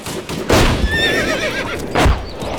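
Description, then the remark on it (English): A horse lets out a loud, high, wavering whinny while heavy hoofbeats thud underneath, with two louder pounding bursts marking the gallop, as riders spur their horses down a pine-needle slope. “Robert Jordan saw Pablo dig his spurs in and plunge down the last pine needle slope.”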